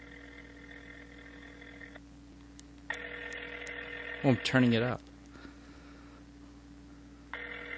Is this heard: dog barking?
no